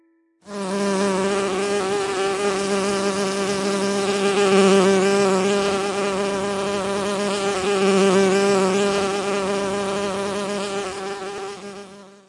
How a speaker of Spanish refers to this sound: El sonido sorpresa de hoy fue el de una abeja. ¿Sabes que las abejas que producen miel suelen visitar aproximadamente 7,000 flores al día? ¿Y que se necesitan 4 millones de visitas para producir un kilo de miel?